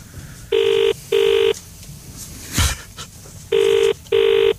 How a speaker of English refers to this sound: Oh, that's me! I'm thinking, who's ringing me? And how weird that someone's ringing me when you're ringing someone else, but actually it wasn't someone else, it was you.